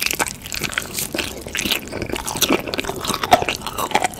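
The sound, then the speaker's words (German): Intense, crisp chewing and crunching of chicken in an ASMR eating recording, with repeated wet bites and crackly breaks in an uneven rhythm, loud and alone with no talking. “Ich erkläre es jetzt mal total banal, aber im Prinzip ist es einfach nur Essensgeräusche. Also wirklich sehr, sehr intensive, klare, fast schon gruselige Essensgeräusche.”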